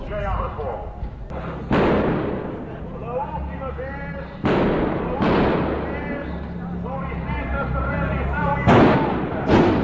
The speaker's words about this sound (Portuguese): Capitão Maia dá as suas últimas indicações. Uma rajada para o alto da varanda do centro.